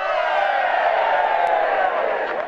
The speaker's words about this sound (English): Security concerns prevented the presence of large crowds at the airport, but Benedict was given a rousing welcome with young people chanting his name in Italian and giving him a soccer cheer.